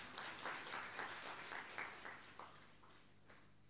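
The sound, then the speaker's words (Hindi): A crowd applauds with steady, dense clapping that rises in a few brighter swells and slowly thins out toward the end. It sounds fairly soft and muffled, with no one speaking over it. “तो तालियां तो बजाओ जरा।”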